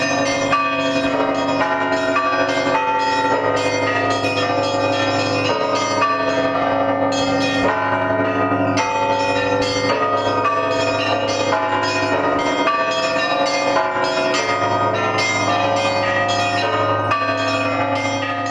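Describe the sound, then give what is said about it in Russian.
Church bells rung by trained bell ringers on a church belfry in the Samara region of Russia, pealing together in a lively, continuous ringing pattern, with quick repeated strikes over sustained, overlapping resonant tones. Loud and full, with no voices. “Ну и постепенно, наработав какой-то опыт, мы свыше на сегодняшний момент 40 или 50 колоколен по Самарской митрополии обеспечили колоколами, обучили звонарей, которые сейчас звонят непосредственно на этих колокольнях.”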